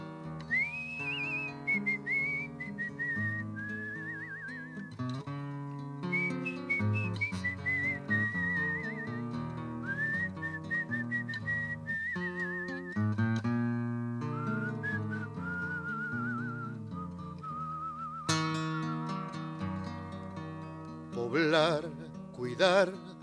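Someone whistles a melody over steady instrumental accompaniment, the clear high tune gliding between notes, with a couple of brief trilling flourishes near the end.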